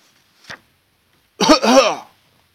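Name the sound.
a person coughing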